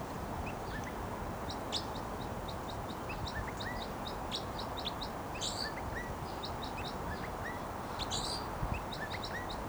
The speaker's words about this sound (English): Flight song there by the wild bird who's vocalizing. And he just moved to another perch.